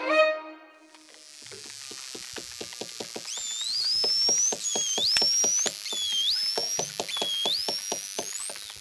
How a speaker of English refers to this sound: And finally, those noises you've just heard were made by bottlenose dolphins. They communicate with each other using a wide range of squeaks, chirps, screams, grunts, and whistles.